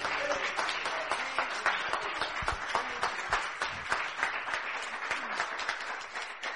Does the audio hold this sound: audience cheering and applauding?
yes